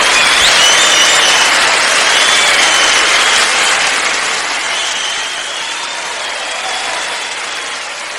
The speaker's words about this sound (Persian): من قربون این تشویق فوق‌العاده شما برم